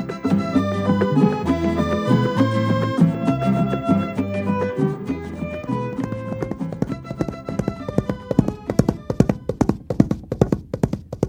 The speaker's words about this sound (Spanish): De esta manera trota un caballo muy conocido en la zona de Santa Ana, en el extremo sur del Brasil, en la frontera con Uruguay.